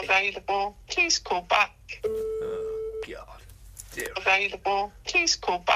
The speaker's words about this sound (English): Right, let's try this number, shall we? Here we go then. Right, oh, here we go, it's ringing. It is, it's ringing. Oh, yeah, it's ringing. Oh, are they going to answer?